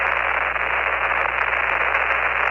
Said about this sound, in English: Okay, I'll read you through the static.